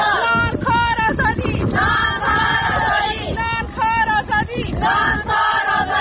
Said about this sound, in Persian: فریاد زنان افغان تا آسمان، فریاد زنان افغان تا آسمان، زنان معترض. راهپیمایی اعتراضی اعضای ائتلاف مستقل جنبش‌های اعتراضی زنان افغانستان در اسلام آباد پایتخت پاکستان برای آزادی هم‌قطارانشان.